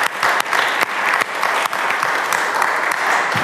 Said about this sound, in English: And please give a warm round of applause for her.